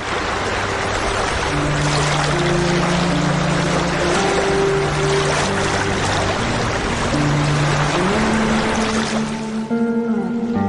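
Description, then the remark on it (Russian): A river motorboat, rented in Tomsk, chugs steadily north through water, its engine drone shifting pitch now and then over a constant rushing splash of the hull. Fairly loud, with no voices. “Летом они арендовали в Томске речной катер и поплыли на север.”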